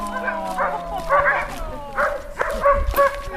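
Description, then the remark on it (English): A pack of sled dogs barks and yips excitedly, short high-pitched calls tumbling over one another in a quick, uneven rhythm, loud, with some whining mixed in. “The dogs get quite a bit of attention in the summer from adoring tourists.”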